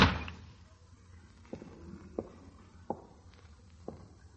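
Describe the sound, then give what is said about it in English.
A door shuts with a solid thud right at the start as someone walks out, followed by four slow, evenly spaced footsteps on a hard floor, with no talking. “if you go out that door, we're through.”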